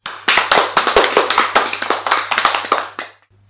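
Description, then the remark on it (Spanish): A crowd applauds the performing artists, with many hands clapping in a dense, steady burst for about three seconds before it cuts off abruptly. No one speaks over it. “A que sí, un aplauso para estes artistas.”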